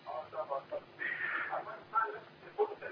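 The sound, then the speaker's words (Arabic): A television turned up to full volume blares in the background of a caller from Kuwait, its broadcast voices coming through a phone line, tinny and band-limited, running continuously with uneven swells in loudness. “مشغل التلفزيون على الاخر.”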